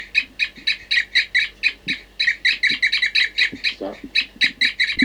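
Caged birds, numbered 40 and 06, give a steady stream of short, hooting "toop" calls, about four per second, clear and moderately loud, with several birds seemingly answering one another. No one speaks.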